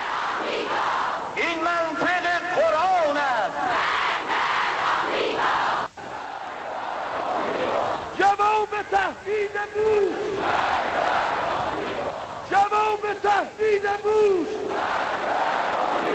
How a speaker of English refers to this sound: All right, massive crowds in these pictures here. They are chanting. The first was death to Israel. The second was death to America.